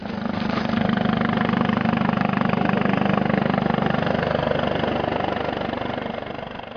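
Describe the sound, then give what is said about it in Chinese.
The engine of a Chinese-made armed helicopter, such as the Z-9WZ, of the PLA Army Aviation 4th Helicopter Regiment drones loudly and steadily during a display for visiting journalists, with a rapid, rhythmic rotor chop running throughout and no voices. “上星期，解放军陆军航空兵第4直升机团向前来访问的中外记者展示了直-9WZ 等国产武装直升机。”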